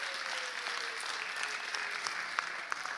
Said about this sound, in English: Can we just clap for them and say thank you? Well done.